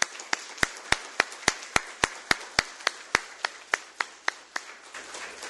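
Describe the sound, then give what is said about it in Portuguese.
Steady, evenly paced clapping at a city council session, with around eighteen sharp, crisp claps in a regular rhythm. It is moderately loud, with no talking over it. “E por isso, todas vocês merecem uma calorosa salva de palmas.”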